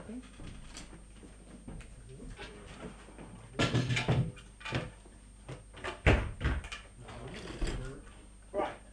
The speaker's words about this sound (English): Could I ask you a massive favour? Could I ask you just to shut that door so there's no draft and stuff like that?